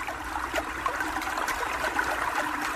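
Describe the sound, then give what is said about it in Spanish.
Steady rushing river water flows without pause, a moderately loud wash of babbling and splashing over stones, with no voices. “Y yo soy el agua del río.”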